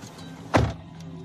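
A single solid car door thunk as a man gets out of a car, fairly loud, cutting briefly through a low, steady interior hum before fading within a fraction of a second. No one speaks.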